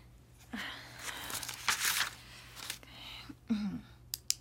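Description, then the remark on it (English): Crisp crinkling of paper being handled, with irregular rustles and sharper crackles across a few seconds, and a faint low hum underneath. “Yeah, there's a different paper.”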